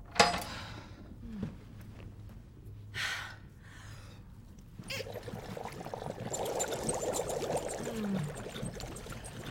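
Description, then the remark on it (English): A few breathy gasps and sighs, then bathtub bubbles switch on halfway through: a steady churning rush of bubbling water that continues to the end. “turn on the bubbles, would you?”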